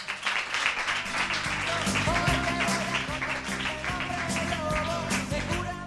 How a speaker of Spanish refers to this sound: ¡Un aplauso!